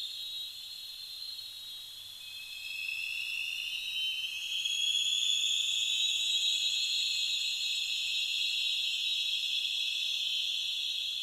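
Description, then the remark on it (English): Sonar pings echoing off deep-sea canyon walls in the ocean around Challenger Deep, blurring into a steady, shrill high-pitched tone with overlapping layers that slowly rise and swell louder, with no voices. “Also, it was loud enough that you can hear the sonar is essentially reflecting, echoing back and forth over the canyon walls.”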